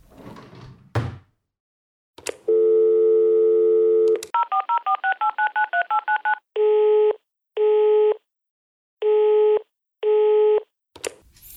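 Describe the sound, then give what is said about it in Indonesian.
A bedside table drawer slides open, then a steady dial tone hums before a quick run of beeping keypad tones is dialed for a home telephone number, followed by four evenly spaced ringing tones and a click at the end. “Dia pun membuka laci meja sebelah katilnya untuk mencari nombor telefon rumah Ayu.”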